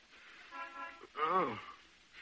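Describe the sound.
A car horn outside gives a short, steady toot at moderate volume, followed by a brief wavering, voice-like sound, then quiet.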